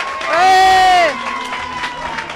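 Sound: audience applause and cheering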